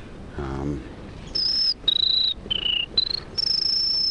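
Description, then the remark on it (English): A person whistles an imitation of a buzzy warbler song, like that of a prairie warbler or black-throated blue warbler: five thin, high, sustained buzzing notes that step down and back up in pitch, following a brief low voiced sound. “Or it depends on the birds, if they have the buzzy, like prairie warbler. Or a black-throated blue.”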